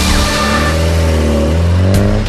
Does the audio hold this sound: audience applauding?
no